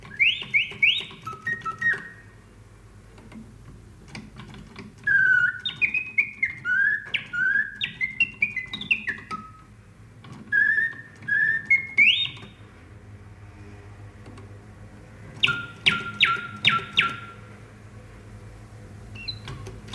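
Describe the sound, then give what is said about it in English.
Two caged songbirds trill and chirp in bright, repeated whistled phrases, trading bursts of song with short pauses between, over a low steady background hum. “Two singing birds in cage.”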